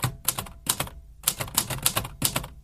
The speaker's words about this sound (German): könnte vor allem eine neue Schreibmaschine gebrauchen. Die Buchstaben tanzen alle aus der Reihe.